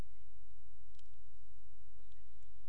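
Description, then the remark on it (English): Paper being folded down and rolled in quarter-inch folds, done five or six times for a craft, heard as a few soft, scattered crinkling clicks over a low steady hum, quiet, with no voices. “Till it just gets, I love the sound of this paper.”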